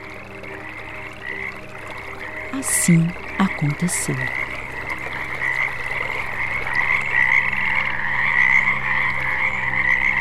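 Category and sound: animal, many frogs croaking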